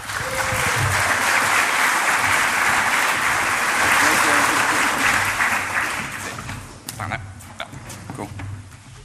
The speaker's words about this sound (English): So we're going to have a big round of applause